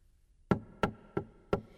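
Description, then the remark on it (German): Four firm knocks on a wooden door, evenly spaced in a quick steady rhythm, fairly loud against a quiet background. “Herein!”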